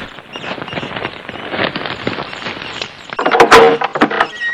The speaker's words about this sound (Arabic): افتح الباب رحمك الله.